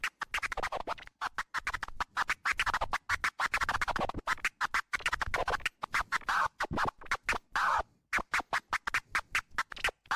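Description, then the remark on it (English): Rapid turntable scratching with crossfader cuts chops a sample into choppy bursts separated by abrupt silences, growing more staccato toward the end. Clear and fairly loud, with no talking. “And what you can do with it is just cut in a sound as it comes in.”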